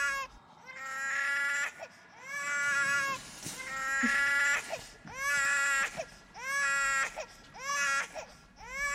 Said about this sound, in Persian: خوبی؟ همیشه اینطوری گریه میکنه؟ فکر کنم احساس دیگران رو درک میکنه.